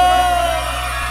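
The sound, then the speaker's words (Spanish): A girl lets out a loud, sustained shout to a crowd, a single high held yell lasting about a second and fading slightly at the end, forceful. “El grito de la chica para los”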